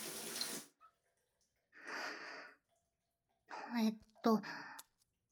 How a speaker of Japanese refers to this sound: ほら、シャワーで流して。体液って落ちにくいなぁ。お湯をかけたぐらいじゃ、ぬるぬるは完全には取れないね。しょうがない。シャワーを一旦止めてと。